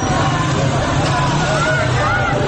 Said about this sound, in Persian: یک گروه از موتوری‌های ضد شورش از بالا می‌آیند و با سر و صدای زیاد از کنار مردمی که در پیاده رو ایستادند حرکت می‌کنند.